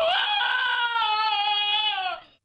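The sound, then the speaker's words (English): A small terrier-looking dog, something like a shih tzu, lets out one long, shrill scream lasting about two seconds, loud, sounding almost human before it trails off abruptly. No other sounds accompany it. “This is Cody the dog screaming.”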